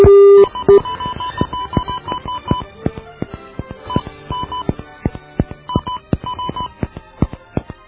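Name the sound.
telephone number being dialed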